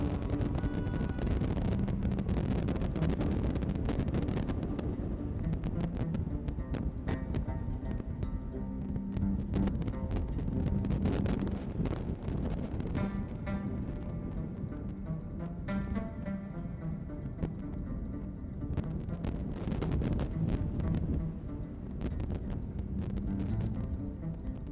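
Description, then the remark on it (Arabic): Steady, loud wind roars and buffets throughout in Tangier, with gusty surges and a low rumbling undertone, and no voices heard. “من عمق الصمت الذي يقطعه هبوب الريح تنبعث أصوات جاجوكا.”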